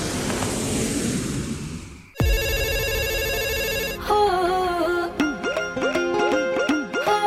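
A busy burst of noise cuts off into a bright electronic mobile ringtone, repeating looping synth tones that swoop and pulse in a steady rhythm, loud and close.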